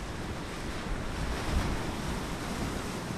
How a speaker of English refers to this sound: Only a few feet away from the Uducton archaeological dig site, waves from a storm are crashing into the shore.